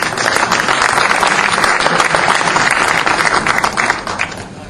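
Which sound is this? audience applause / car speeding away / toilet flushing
audience applause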